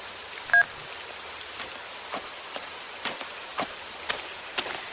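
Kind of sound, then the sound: nature, rain falling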